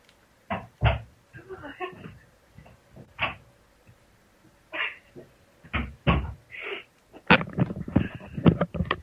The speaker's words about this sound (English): Can you hold on 1 minute? My cat is going crazy and I don't know why.